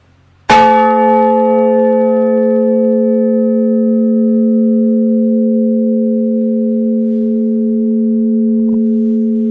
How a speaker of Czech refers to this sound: Ta svatá Barbora váží 700 kg, je to zvon těžkého žebra, ladění toho zvonu je A.